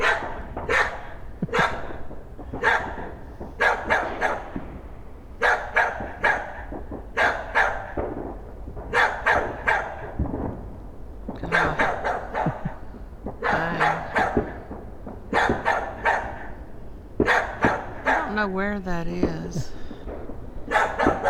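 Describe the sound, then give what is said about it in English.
A male dog barks over and over in quick, fairly regular bursts, loud, keeping it up for about twenty seconds with a brief whiny yelp near the end. “Actually, I think he's barking at you.”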